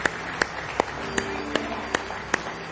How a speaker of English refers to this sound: Go ahead and let's give him a good hand clap praise this morning.